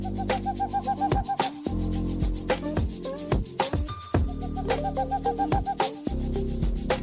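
A looping electronic beat with heavy bass and sharp percussive hits, layered with chopped, pitched bird-call samples that chirp and hoot in rhythm. It plays loud and steady with no voices.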